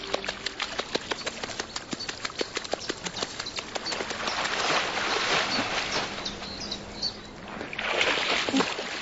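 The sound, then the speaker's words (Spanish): Water splashing as a dead fish is moved beneath the water's surface to imitate live prey, teaching 22-month-old North American forest wolves to fish: a quick series of sharp slaps and drips at first, then a fuller sloshing churn, a brief lull, and another burst of splashing near the end. “Mueve un pez muerto por debajo de la superficie del agua para fingir que es una presa viva.”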